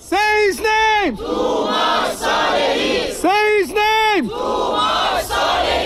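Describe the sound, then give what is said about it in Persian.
A large crowd of Iranian demonstrators in Malmö, Sweden, rallying in support of Toomaj Salehi, chants loudly in unison, a rhythmic pattern of sustained shouted syllables repeated twice, with a murmur of crowd noise filling the gaps between. “این هم حمایت ایرانی‌ها از توماج در مالمو سوئد.”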